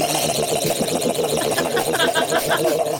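Loud engines of a long, narrow cigarette speedboat with big engines roar continuously, a dense steady mechanical drone with a rough pulsing texture that fills the whole stretch.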